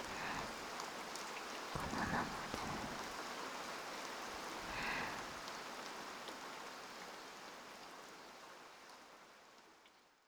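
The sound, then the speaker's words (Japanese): Steady rain falls in a continuous, even hiss, unbroken throughout, with a soft voice briefly murmuring beneath it before the rain slowly fades toward the end. “せめて雨が止むまでこのままでいさせてください。”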